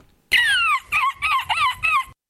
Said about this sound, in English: Okay, that was correct. It was a bird at the end.